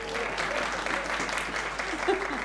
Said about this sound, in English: Yes, give them a clap.